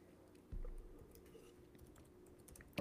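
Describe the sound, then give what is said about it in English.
Quiet tapping of computer keyboard keys in short irregular bursts, with a louder thump near the start and another at the very end, and no talking. “Why are you not typing for me?”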